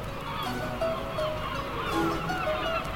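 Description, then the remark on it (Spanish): A flock of gulls calls continuously on the coast, overlapping honking cries filling the air at moderate volume, with no one speaking. “Cuando pensamos en aves de la costa, seguramente lo primero que se nos viene a la mente es una gaviota.”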